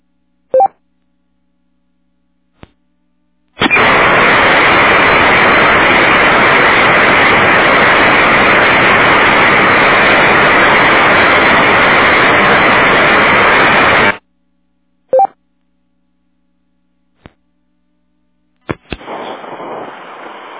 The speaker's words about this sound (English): There's another station trying to get in. I'm getting nothing but static.